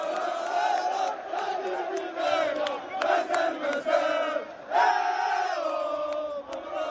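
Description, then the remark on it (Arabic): Morocco's national football team players celebrate qualifying for the Qatar World Cup at the Mohammed V sports complex, a loud crowd of male voices chanting and shouting together in sustained, rhythmic bursts, with a brief dip before the cheering surges again. “هذا جزء من فرحة اللاعبين على أرضية المركب الرياضي محمد الخامس بتأهل سادس للمونديال.”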